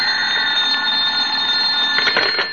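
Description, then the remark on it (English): A telephone rings at home in the morning with a loud, continuous metallic bell clatter, steady for the whole moment, with no voices over it. “He was reading the morning paper at home when the phone rang.”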